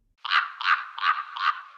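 A raven croaks four times in a steady rhythm, each call harsh, raspy and fairly loud, with no other sounds around it.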